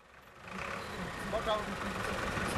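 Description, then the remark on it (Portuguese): An empty van's engine idles steadily at a bus stop, a low continuous rumble with a faint brief tonal squeak partway through, and indistinct voices may sit in the background. “Vamos apanhar esta carinha. Está vazia e por isso podemos ficar lá atrás.”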